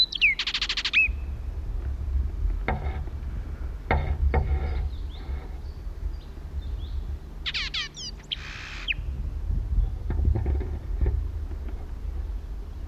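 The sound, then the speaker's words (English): Two short bursts of high, rapid blackbird contact calls, some 120 feet to the right, one at the start and one later, separated by a stretch of low rumbling background with a few faint clicks and knocks. “At last contact call was some 120 feet to my right.”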